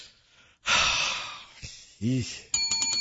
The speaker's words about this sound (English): Ooh, the sanity bell.